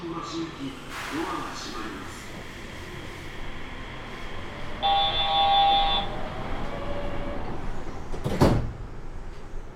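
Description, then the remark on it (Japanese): Inside a train carriage, an electronic chime sounds, then a short burst of air and a mechanical rattle as the right-side doors slide open. A low rumble runs underneath, with muffled voices in the background. “右側のドアが開きます。ご注意ください。”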